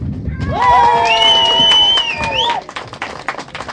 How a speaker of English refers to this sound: So we need a big cheer, everybody, when he does it. Yeah, he's just going to cut it at one end. Ready, steady, go!